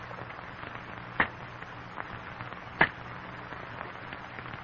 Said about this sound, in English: In the strained silence, the men listen to the sharp crack of cane knives on stalks of cane, the crackling of falling cane leaves.